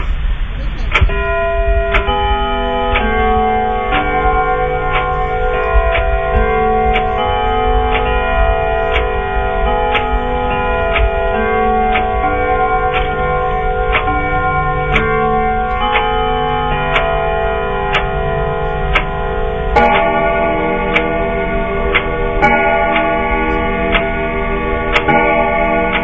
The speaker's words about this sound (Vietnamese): Đồng hồ trong nhà chậm rãi gõ 11 tiếng. Tư Cầu lầm nhầm đếm đủ 11 tiếng keng keng đó mà thêm sốt ruột.